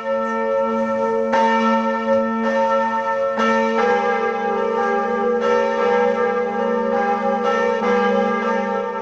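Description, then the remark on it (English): The large bells of Notre Dame Cathedral in Paris, an 850-year-old French Gothic building, peal together for the first time since the 2019 fire, in overlapping strikes, deep resonant tones layered with bright ringing overtones that sustain and blend continuously, loud and steady with no voices. “Of Notre Dame Cathedral ringing out together for the first time since the devastating fire of 2019.”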